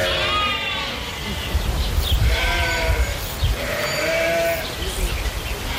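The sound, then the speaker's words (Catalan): A flock of lambs bleats continuously, overlapping high, wavering cries from several animals, with a low rumbling background and no one speaking. “I mentrestant, hi ha hagut un nou robatori de xais a les últimes hores a Catalunya, aquest cop a Maçanet de la Selva.”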